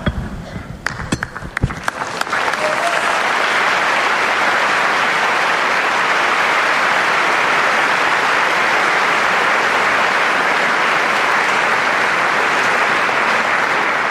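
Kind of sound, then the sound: crowd, large crowd applauding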